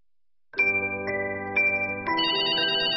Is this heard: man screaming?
no